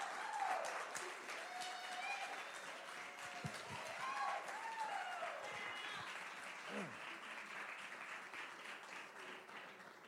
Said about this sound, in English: So we just love them and appreciate them. Could we get a big round of applause for them, appreciation for them? We love you guys.